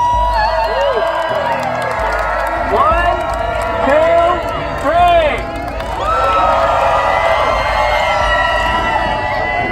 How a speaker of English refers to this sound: Even as she was about to take the group's photo, people of color kept jumping into the frame. Each time, they were met with a loud cheer.